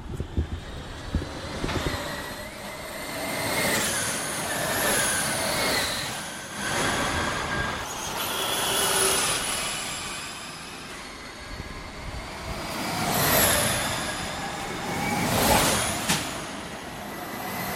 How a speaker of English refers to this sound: But first, with your permission, because you went to Formula E and you recorded some Formula E vehicles, I wanted to hear what Formula E electric cars sound like. So we've got a clip that you recorded. Here it is.